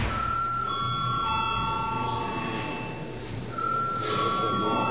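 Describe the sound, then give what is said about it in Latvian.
An electric bell rings continuously in the Latvian parliament chamber at the end of an extraordinary plenary session, a steady bright tone with a slight break partway through before resuming, over a low background hum. “Lūdzu zvanu.”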